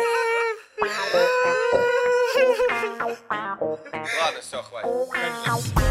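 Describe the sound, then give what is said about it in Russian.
Loud wailing and sobbing voices, with drawn-out quavering cries broken by short gasping sobs, continuing for several seconds and apparently performed as an exaggerated imitation of crying. “Плачем, плачем, плачем.”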